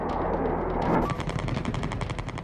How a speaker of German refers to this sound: Feuergefechte. Freitagnacht in der Türkei.